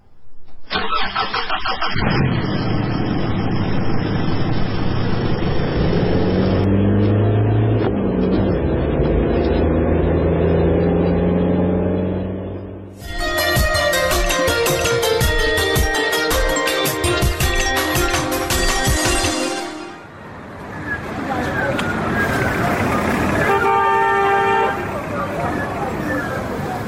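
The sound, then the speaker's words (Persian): An engine starts and revs as a car pulls away on a police commander's order, its drone rising and shifting, with a car horn honking partway through and voices speaking over the steady motor noise. “برو بچه موتر حرکت بده.”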